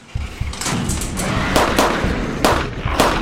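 A loud bomb explosion: a heavy, sustained roar with low rumble, broken by several sharp crackling bursts over about three seconds. No voices.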